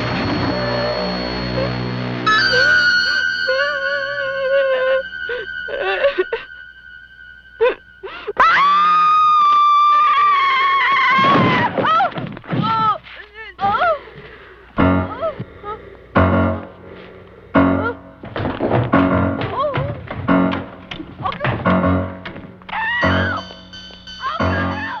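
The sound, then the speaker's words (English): A woman screams in long, rising and falling wails, loud, over dramatic orchestral music with sustained tones and sharp stabs, in a horror film clip. “This is just the scream.”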